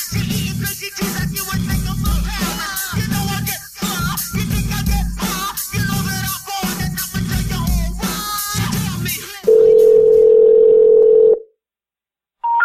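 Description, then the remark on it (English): A busy, layered stretch of sound gives way to a loud, steady telephone tone that holds for about two seconds, cuts to silence, then a brief higher beep begins as a phone call is being placed. “I was in the process of calling him, and she came back to the phone.”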